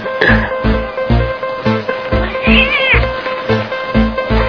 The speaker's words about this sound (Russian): Ты отвратительная кошка, ты быдло. Ты кошка-быдло.